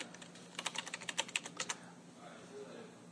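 Quick burst of typing on an IBM Selectric III electric typewriter, cast aluminum and weighing about 75 pounds: about a dozen crisp, clacking keystrokes in rapid, slightly uneven succession, then fading into a quiet hum.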